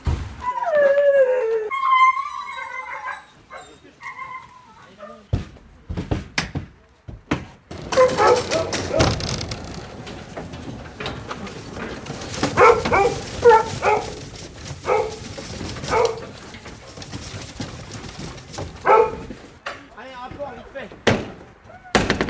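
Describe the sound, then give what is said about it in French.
A pack of impatient hunting hounds yelps and whines in high, wavering cries, then erupts into a dense, restless chorus of overlapping barks and howls from inside a truck. “Qui s'impatientent, qui sont dans le camion.”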